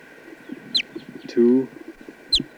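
A test bird, number 248 and likely a chicken, being recorded, gives a short, loud, buzzy cluck-like call, framed by two quick high-pitched chirps, over a steady electrical hum and faint low rustling.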